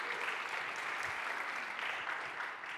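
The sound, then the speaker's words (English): A crowd applauds steadily for a wife's nearly 45 years of marriage. A dense wash of many hands clapping at once, sustained and fairly loud from start to finish with no voices standing out. “I will tell her that you applauded her ability to stick with me.”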